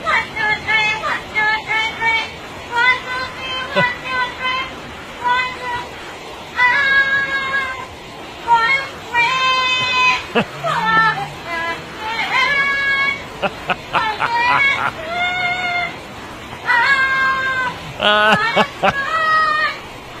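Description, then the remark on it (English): A parrot sings a pop song in its own voice, a shrill, warbling run of short melodic phrases with garbled words, repeated in bursts with brief gaps over about twenty seconds. “You know what they must teach that parrot next?”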